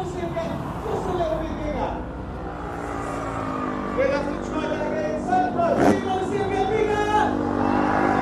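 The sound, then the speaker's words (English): Drift car engines rev and whine continuously at a busy outdoor track at Santa Pod, with pitch rising and falling as they accelerate, amid crowd noise and a spike around six seconds like a passing car or skid. “Got some drifter cars there.”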